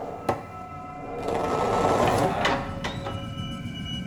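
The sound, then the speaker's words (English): Old machinery runs with a steady droning hum and faint high whine, broken by a few sharp clanks and a rising grinding swell in the middle before settling back to the drone. “Sounds like those machines are on the other side of this wall.”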